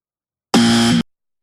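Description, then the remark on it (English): A single loud electronic buzzer, turned up to be louder, blares for about half a second, harsh and steady with a rich, raspy tone, then cuts off abruptly into silence. “Yeah, that's really loud.”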